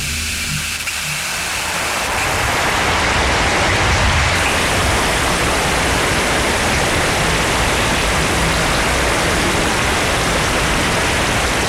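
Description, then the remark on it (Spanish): Heavy early-morning rain pours down at Cerro del Rebote in a steady, loud hiss that swells over the first two seconds and then holds constant, with a low rumble underneath and no voices. “Y la grabación que hizo Hugo Torongo Tortugo de la lluvia de esta mañana.”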